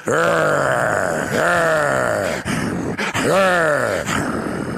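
A dog growls and grumbles in several long, drawn-out vocal bursts with sliding pitch, fairly loud, with short pauses between them and no talking.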